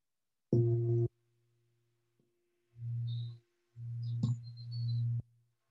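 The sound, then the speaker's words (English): A ritual bell, rung before a Buddhist invocation and mantra, sounds in several tonal bursts, with a bright opening strike followed by lower humming tones and a thin sustained ring lingering between them. No one speaks. “So just ring the bell and then I'll do the invocation leading into the mantra.”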